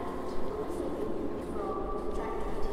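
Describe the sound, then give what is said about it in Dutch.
Steady, echoing ambience of the large station hall of Antwerp Centraal train station in Antwerp: a continuous wash of crowd murmur and indistinct activity at moderate volume, with no single sound standing out. “We gaan ook even kijken in de indrukwekkende stationshal.”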